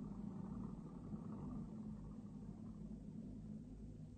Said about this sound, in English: There's a car coming up the hill. So, it won't stop.